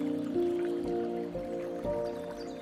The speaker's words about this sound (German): Lausche einen Moment den Fließgeräuschen des Wassers.